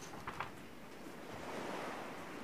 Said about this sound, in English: both Sandra and Aaron spent more time on the patio listening to the roaring ocean waves